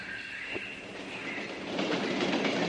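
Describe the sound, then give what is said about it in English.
An Amtrak passenger train rumbles along the rails with a steady mechanical roar and a thin metallic whine above it, the noise swelling slightly louder toward the end. No one speaks. “Not so fast, boys. Amtrak waits for nobody.”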